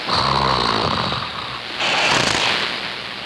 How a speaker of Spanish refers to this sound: No, es alguien roncando, ¿no? Sí. La onomatopeya correspondiente es gugu. Se usa gugu para indicar que alguien está profundamente dormido.